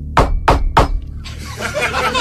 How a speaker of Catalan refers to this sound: A banda d'aquest pito del dimoni, estigueu atents, perquè això és també un altre simulacre d'emergència. Pot ser que a qualsevol hora, en qualsevol moment, a casa vostra, us piquin a la porta, tal que així.